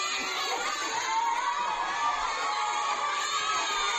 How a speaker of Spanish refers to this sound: Escucha la alegría de una clase entera del país africano tras recibir algo tan cotidiano como una cantimplora.